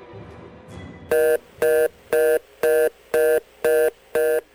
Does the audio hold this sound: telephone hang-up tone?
yes